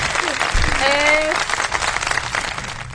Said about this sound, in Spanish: ¡Bravo! Bien, tenemos aplausos.